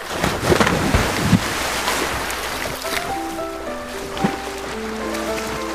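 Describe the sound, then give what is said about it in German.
A person cannonballs into a pool with a loud, churning splash of water, then short musical tones begin as the splashing fades. “Kommt ins Ebertbad, bleibt gute Menschen und uns bleibt nur noch die Arschbombe. Und... Arschbombe!”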